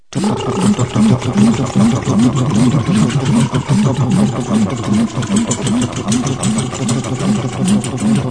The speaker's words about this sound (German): Den ganzen Abend Gerüchte, begleitet vom Lärm der Hubschrauber, die über der Stadt kreisen.